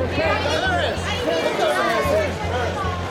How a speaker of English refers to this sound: At a Los Angeles Grammy Awards party in 2004, photographers gathered around the red carpet, hungry for the it girl to arrive. And when she finally did, they erupted in shouts to get her attention.